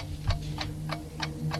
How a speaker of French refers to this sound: La sonnerie du réveil retentit.